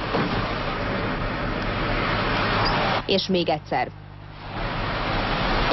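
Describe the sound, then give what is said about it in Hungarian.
Steady road rumble from a car moving on a bridge's newly resurfaced, smooth asphalt, then a quick cluster of about four loud thumps as the tires strike the bridge's expansion joints. A voice speaks briefly. “Ez a vonal dobta meg ennyire az autót. Ezek az úgynevezett dilatációs illesztések.”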